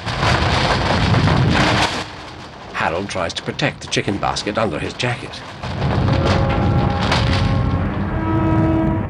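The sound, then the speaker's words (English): A room shudders in a tremor with a heavy rumble while debris falls from above, crackling and pattering down in a dense, loud spray; the noise eases while a voice speaks briefly, then surges back. “The room shudders. Debris falls from above.”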